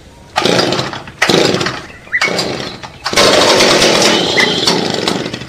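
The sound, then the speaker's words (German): A chainsaw revs loudly in four bursts, the first three short with brief pauses between, the last a longer sustained roar, harsh, with no voices. “Ja, ganz gut, wenn man eine Kettensäge dabei hat.”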